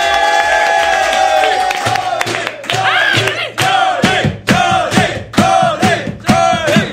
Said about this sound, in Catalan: Va, rebem un fort aplaudiment